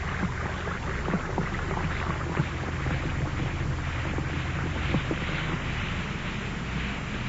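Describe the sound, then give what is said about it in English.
An Alka-Seltzer tablet fizzes steadily in a glass of water, a dense crackling hiss of countless tiny bursting bubbles that holds an even level throughout, with no one speaking. “Just drop a tablet or two of Alka-Seltzer in a glass of water like this. Listen to it fizz.”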